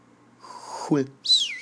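A breathy rush of air rises into a short, bright whistled note that slides gently downward, fairly loud, lasting under a second.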